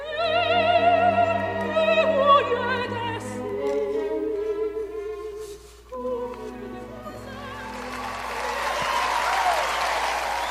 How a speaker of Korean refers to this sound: 그녀의 공연이 대성공을 거두고 우레와 같은 박수 소리를 받을 때 라울은 혼자 괴로워하고 있었다.